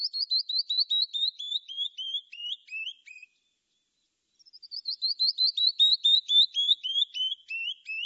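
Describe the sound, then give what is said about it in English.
A canyon wren, a tiny cinnamon-brown bird, sings its cascading song, clear whistled notes tumbling down in pitch, sung twice with a short silence between. Bright, with no talking. “That song of the canyon wren is unique in North America.”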